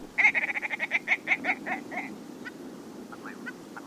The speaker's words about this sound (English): Willow ptarmigan. Uh-huh. To me, this has one of the most comical calls of all the birds of North America. It sounds like somebody trying to make little sounds with their throat or the back of their throat.